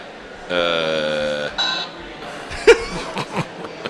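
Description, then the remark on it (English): A Casio electronic keyboard in a booth plays a loud, buzzy sustained tone for about a second, then a shorter second note, followed by people chuckling and laughing. “actually brought a freaking Casio keyboard into the booth here.”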